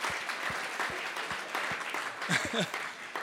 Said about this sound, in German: Wollen wir mal den Handwerkern einen Applaus geben, die machen einen richtig guten Job.